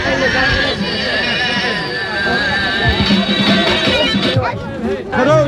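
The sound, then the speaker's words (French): A large crowd of men wearing jambiya daggers murmurs steadily, many voices overlapping into a loud, continuous hubbub, with a few higher sustained tones drifting above the chatter throughout. “Oh la foule!”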